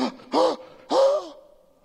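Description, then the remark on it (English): Two sharp, breathy gasps in quick succession, the second longer with a rising voiced edge, fairly loud with no talking, as if someone is acting out shocked surprise. “Now, if you were sitting there listening to him, you would have gasped.”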